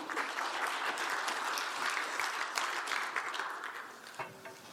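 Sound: applause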